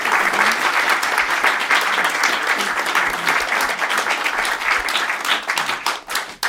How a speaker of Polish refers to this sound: Wielkie brawa dla wszystkich w tym studiu zgromadzonych.